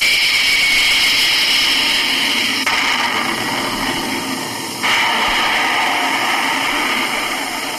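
Jet engines roar loudly and continuously as jet interceptor fighter planes scramble and take off, a dense, steady high-pitched rush that shifts in intensity partway through, with no voices.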